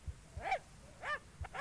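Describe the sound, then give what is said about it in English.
A dog barks three times in quick succession, short high-pitched yelps with a slightly whiny tone, moderately loud, with no one talking over them. “But that is not his bark.”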